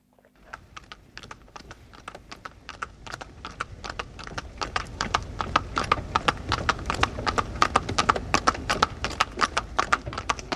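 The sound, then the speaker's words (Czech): Horse hooves trot in a steady, brisk clip-clop rhythm, growing louder as the horse approaches, with sharp percussive hoof strikes over a low rumble. No voices. “Klusání koně.”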